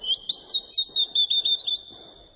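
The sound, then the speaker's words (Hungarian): A small bird sings a quick run of high, bright chirps, around eight rhythmic pulses, with no voices and only a faint low rumble beneath. “Épp ide fog szállni ez a kismadár. Tudja, hogy a vonat megáll az erdő mélyén, és a dalt hallunk.”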